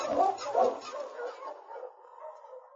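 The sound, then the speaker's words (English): Sergeant Preston's sled dog team, stopping at a cabin at Indian Creek, barks in a couple of quick bursts, then trails off into a thin, wavering whimper that fades softly over the last seconds. “Meantime, Sergeant Preston of the Northwest Mounted Police stopped his dog team at a cabin at Indian Creek.”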